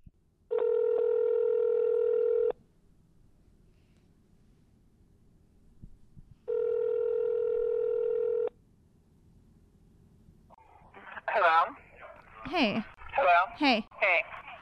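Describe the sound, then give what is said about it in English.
Two long, steady telephone ringback tones sound a few seconds apart, loud and clear as a recorded phone call rings through, then a voice answers and talking begins near the end. “So they kept a log of this, and we went ahead and called her and asked, and I'll play that phone call for you right now because I recorded it just for you guys.”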